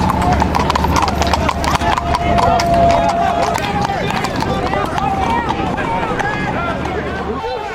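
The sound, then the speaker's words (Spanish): A police horse's hooves clip-clop rapidly and steadily on hard ground amid a loud, busy crowd with overlapping voices during the eviction of an occupied camp in Philadelphia, while a sustained high tone sounds through the first few seconds. “En la fase inicial del desalojo en Filadelfia, el caballo de un policía pisó a una mujer momentos después de que los ocupantes del campo derribaran una barricada.”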